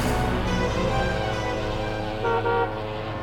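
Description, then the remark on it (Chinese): Car horns honk in Hong Kong city traffic, overlapping into a steady, loud blare. The sustained tones hold for the full few seconds, with a brief shift in pitch near the end. “车混入车流当中消失了。”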